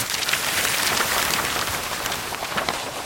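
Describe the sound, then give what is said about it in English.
Steady, dense crackling of paper rustling against a microphone, recorded as raw material for designing fireball sounds; a continuous hissy scratching with small irregular pops throughout, fairly loud and with no voices. “Phase one is like paper on the microphone.”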